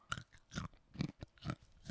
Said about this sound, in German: ich habe auch Nüsse im Mund